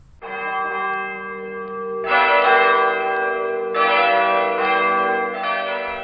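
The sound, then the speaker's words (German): Church bells ring out loudly at noon, several heavy strikes a couple of seconds apart, each leaving a long, rich resonance that overlaps the next. No voices are heard. “Ach, es ist schon 12 Uhr. Die Glocken der Kirche läuten.”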